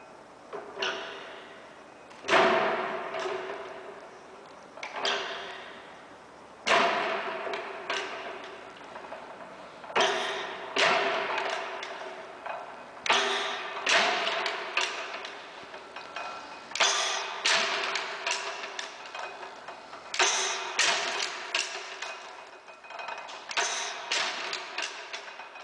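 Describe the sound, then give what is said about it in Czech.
The world's first internal combustion engine runs with a loud metallic bang every two to four seconds, each followed by a decaying rattle and clatter. It is a cast-iron column with a piston and rack rod inside; a mix of air and lighting gas is ignited by a small flame and explodes. Nobody speaks. “To, co právě slyšíte, je zvuk prvního spalovacího motoru na světě.”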